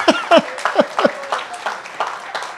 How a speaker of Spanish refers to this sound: Damos un aplauso al Señor por su vida.